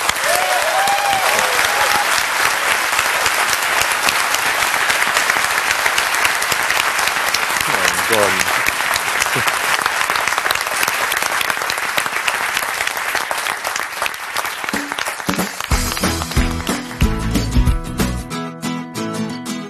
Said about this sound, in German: Freue mich über die rege Diskussion und nochmal ganz herzlichen Dank und jetzt mal großen Applaus für euch.